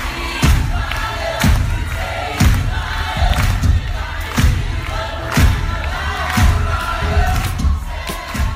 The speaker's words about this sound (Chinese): 这是百老汇的掌声雷动。